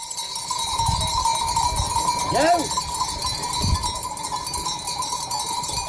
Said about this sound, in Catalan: Aquests picarols que sentiu són de les ovelles del nostre següent convidat